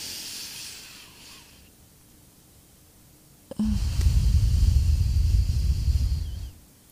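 A soft airy hiss fades into quiet, then a loud, rushing breath surges in and holds steady for about three seconds before cutting off: a deep breath inflating the stomach, taken as a breathing exercise. No one speaks.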